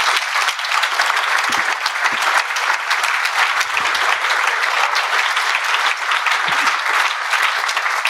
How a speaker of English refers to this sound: Let's give the panel a round of applause.